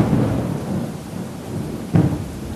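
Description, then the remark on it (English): A sudden northwester thunderstorm rumbles with steady rain hissing throughout, low thunder rolling underneath and a sharper crack of thunder near the end. No voices are heard. “There could be a sudden northwester storm that brought the sweltering heat down by a few degrees, but just for a few hours.”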